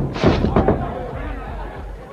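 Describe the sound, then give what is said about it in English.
A huge barrel of molasses, hung from a swinging boom, falls when the rope breaks and crashes down onto a wooden dock: a loud, booming impact with a second thud close behind, then a low rumbling clatter that slowly fades. “The barrel hurtled toward him through the air.”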